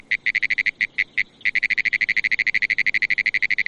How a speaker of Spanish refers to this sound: Y aquí tienen, señoras y señores, a la rana de los pinares.